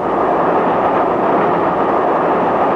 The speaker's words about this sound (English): Did you hear that rattle of the wheels just now? Feel the whole train sway slightly? I did notice something. Why? Those were the crossover points 1 mile south of the Clayton Tunnel.